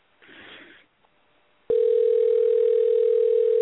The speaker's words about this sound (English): Oh, the phone's ringing.